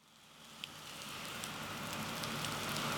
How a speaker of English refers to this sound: It's Thursday morning in the Garden District of New Orleans. The rain started overnight, and there are no signs of it letting up.